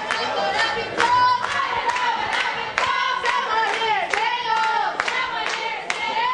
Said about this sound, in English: Try having a birthday at Hooters. You don't just get a cake with candles. A half dozen Hooters girls stand you on a chair and cheer for you.